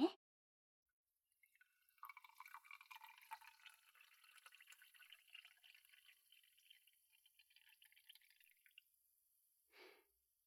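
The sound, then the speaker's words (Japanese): Fizzy soda water is poured into a glass with ice, aiming not to hit the ice, to finish a gin fizz; a steady bubbling stream with crackling carbonation for several seconds, ending in a brief clink of ice. No one speaks. “あ、もし自分で作るとき用の参考で一つ教えておくと、炭酸を注ぐときにはなるべく氷に当てないようにするといいよ。”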